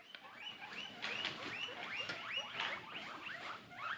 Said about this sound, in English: By which we take being as a compliment, because guinea pigs are wonderful, and here's what they sound like.